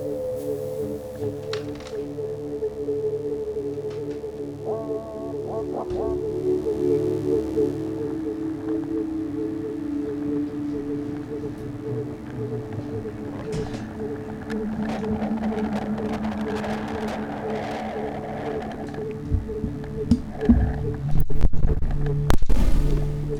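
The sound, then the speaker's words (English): A theremin being tuned: steady, wavering humming tones that drift in pitch, with a brief stepped flutter of higher notes, then a few louder crackling thumps near the end. No one speaks. “Please be quiet while Echo tunes the theremin.”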